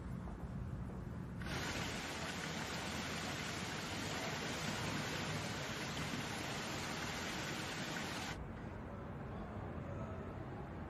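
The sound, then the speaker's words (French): Water pours steadily down a gently sloping cascade beside a foundation building surrounded by water and pools, a continuous rushing wash that turns brighter and hissier for several seconds in the middle before settling back to a softer flow. “Il est entouré d'eau, des bassins d'un côté, une cascade en pente douce de l'autre.”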